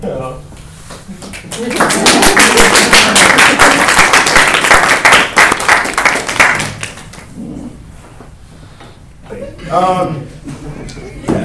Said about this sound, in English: I heard a little clap going.